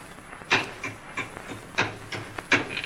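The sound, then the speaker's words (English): A wooden crate being pried open with a hammer: a series of sharp creaking, cracking strains of wood, about five strong bursts at a steady pace with softer scraping between, fairly loud. “What do you think is in the box? I'll open it up. Hand me that hammer and Jimmy.”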